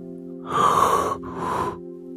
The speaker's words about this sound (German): Konrad kommt an der Haustür an und ist so müde, dass er sie gar nicht mehr öffnen kann. So müde sind wir jetzt, denkt Konrad und gähnt.